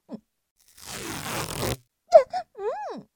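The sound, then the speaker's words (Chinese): A second-long rasping rip of adhesive tape pulled off a roll sounds fairly loud, followed by short vocal cries. “你撕胶带干嘛？”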